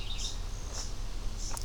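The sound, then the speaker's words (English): Several short, high-pitched bird calls ring out from birds in a tree overhead in a forest, spaced irregularly over a steady low outdoor rumble, with a sharper chirp near the end. “There's some birds in the tree above me who don't like me being here.”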